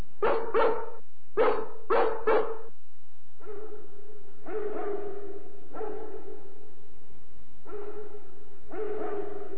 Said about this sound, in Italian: siamo fortunati, è il grande danese di Amstead.